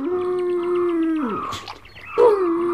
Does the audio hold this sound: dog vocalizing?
yes